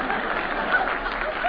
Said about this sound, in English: Let him applaud.